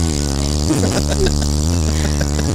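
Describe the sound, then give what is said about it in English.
A steady, droning motor hum with a low buzzing pitch holds at an even loudness throughout, with a few faint rattling clicks over the whir, like a Walmart motorized scooter running. “I don't know that I have the sound of a scooter.”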